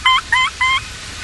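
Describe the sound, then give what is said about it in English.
Three sharp, evenly spaced hard clucks from a wild turkey walking toward a group of people in the fall, each brief and fairly loud, over a quiet outdoor background with no talking. “That hard clucking you hear, that's a turkey walking right toward the guys.”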